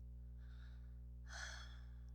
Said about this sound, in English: You're panting now.